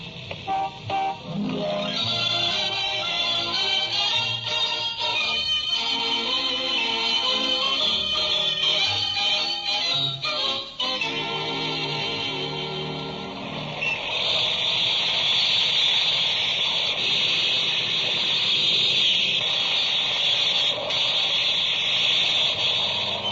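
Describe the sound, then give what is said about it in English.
A large steam shovel works at a construction site, its engine droning loudly and steadily, with a high whining hiss and clanking shifts in pitch partway through; no one speaks. “Some size steam shovel.”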